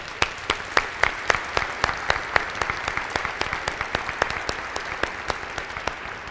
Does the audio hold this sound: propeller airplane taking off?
no